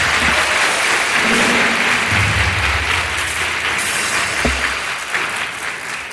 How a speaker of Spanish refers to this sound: Les transferimos este aplauso.